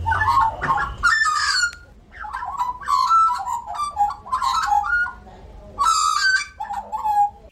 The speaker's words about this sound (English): So we've been listening to the magpies.